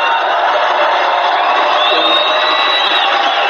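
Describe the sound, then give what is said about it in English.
A large rally crowd cheers loudly and continuously, a dense roar of voices with scattered whoops and shouts rising above it, holding steady throughout without a break. “Look at this crowd. There's never been more spirit than we have right now.”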